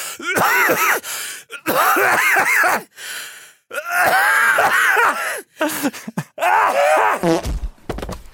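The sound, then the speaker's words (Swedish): An old man coughs in several loud, rasping fits, each burst trailing into a strained, groaning wheeze, with short gaps between them and no talking. “Alla som hostar är jävligt visa, har jag tänkt på.”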